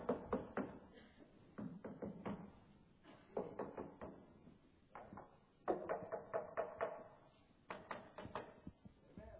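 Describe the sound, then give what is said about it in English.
A shepherd in foggy mountains knocks a stick sharply against something hard in quick bursts of several taps, pausing between each run. The knocks are dry and fairly loud, with no voices. “And so every now and then, that shepherd, he'd take a stick.”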